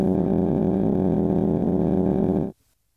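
A loud, steady droning tone, the speech of a Swedish summer radio talk (sommarprat) sped up so much it blurs into one buzzing hum, holds for about two and a half seconds, then cuts off abruptly into silence.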